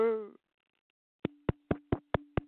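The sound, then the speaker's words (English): A quick series of six sharp, hollow knocks on a door, evenly spaced and fairly loud, following a brief snatch of a voice at the very start. “Somebody at the door, Ralph.”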